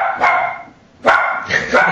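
A female pet puppy barks in two sharp, high-pitched bursts about a second apart, the second trailing into a longer yappy cry, loud and on its own.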